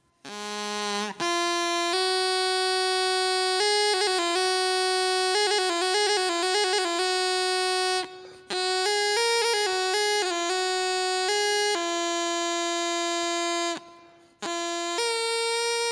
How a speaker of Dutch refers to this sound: En dan hebben we nog de riettoeter. Dat is een soort slangenbezweerdersfluitje.